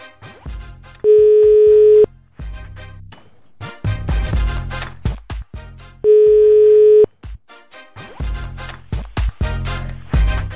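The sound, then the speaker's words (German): Two one-second bursts of a steady telephone ringback tone from an outgoing call placed by the Ego FM radio station to a listener, about five seconds apart, loud and clear, with rhythmic music playing in the gaps between them. “den versuche ich jetzt mal am Telefon zu überraschen.”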